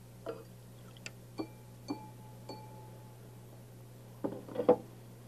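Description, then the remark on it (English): A drinking glass with water in it is tapped several times, each strike ringing out with a clear, bell-like tone, ending in a quicker cluster of taps over a steady low hum. “See that drinking glass sounds a little like a bell.”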